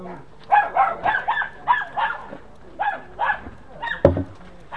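A dog barks and yaps in a quick, uneven series of sharp calls lasting several seconds, fairly loud, ending with one harder, punchier bark.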